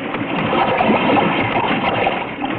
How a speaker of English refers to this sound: Jack Armstrong is going down into that sinking submarine. The dark Atlantic waves are lapping hungrily at her deck, and the American subchaser is standing by, taking off the last of the captured enemy crew.